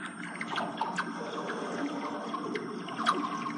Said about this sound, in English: And with the right position of a microphone, you can get a really cool sound like that sound. So take a listen again. So this is water going into the metal gutters that collect the water on the, along the pool.